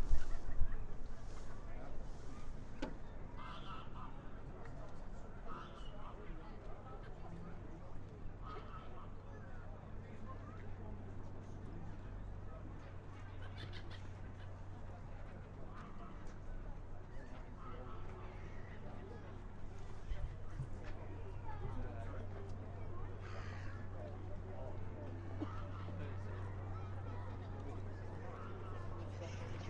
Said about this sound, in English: But there are loads and loads of swans down on the river here today as well. I'm looking at 50 or 100 swans. And this is just the general sound of the river, which I'll give you a minute or so of before we move elsewhere.